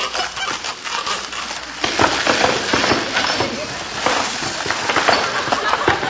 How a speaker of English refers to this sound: I just dropped my wristwatch inside the wall, and I'm taking a couple of these boards out so I can reach it.